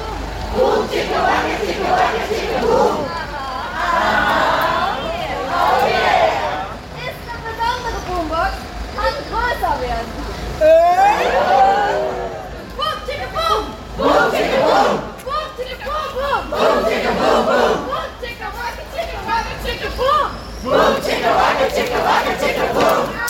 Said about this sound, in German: Das ist der Sound der ersten Sitzblockade Richtung Hochheim, Zubringer der Auto, der Bundesbahn. Wir haben gerade gesprochen mit einer ganz besonderen Art des Protests. Sie sehen aus wie Clowns, sie haben bunte Klamotten an, rote Nasen.